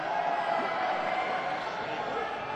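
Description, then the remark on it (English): An audience member at a live music show shouts loudly and steadily for a couple of seconds over a dense wash of crowd noise, the raised voice holding a fairly even pitch throughout. “That was a particularly beautiful shout.”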